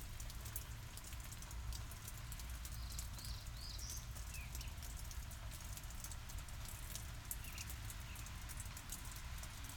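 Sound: water dripping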